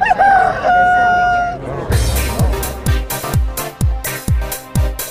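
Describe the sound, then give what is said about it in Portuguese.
A single loud rooster crow rings out for about two seconds, then gives way to an upbeat music track with a steady, thumping beat. “Dentro do Você Online, fala foca e canta galo”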